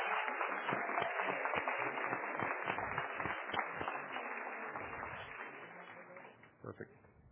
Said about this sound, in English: Ladies and gentlemen, a round of applause for the 2014 class.